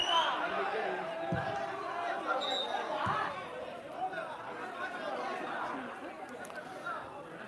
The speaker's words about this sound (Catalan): Sí, protesten el públic i els jugadors de l'Unió Esportiva perquè és una, que pensen que és, hi ha una reiteració de faltes del mateix defensor sobre el mateix jugador atacant